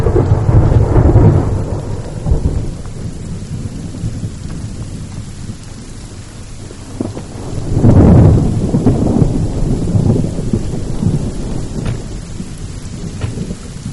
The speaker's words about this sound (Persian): بارون گرفتی بریم تو.